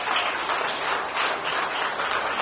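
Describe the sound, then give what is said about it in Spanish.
A crowd applauds two pastors steadily, a dense wash of many hands clapping at once with no pauses, holding an even, moderately loud level throughout and no voices standing out. “Un aplauso para ellos.”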